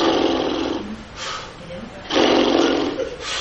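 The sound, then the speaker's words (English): A voice imitates blowing bubbles with the face in the water, as taught when learning to swim, with breathy, sputtering bursts: a long one, a short puff, then another long burst and a brief one at the end, with quieter gaps between. “She taught me to put my feet down like this, lean over, put my face in the water, and blow.”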